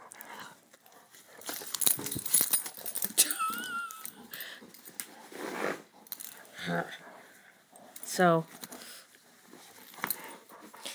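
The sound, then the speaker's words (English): A dog on a leash lets out a few high, wavering whimpers between bursts of shuffling and light metallic jingling as it moves about, with a person saying a word at one point. “yes, I've got a four-legged toddler on a leash”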